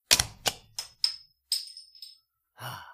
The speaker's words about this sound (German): Man muss das, glaube ich, gar nicht mit so großer Kraft, wie du das immer tust, auf die Flasche draufhauen. Irgendwann feuerst du dir die Flasche, weil du so krass stark bist, durch den Oberschenkel irgendwie.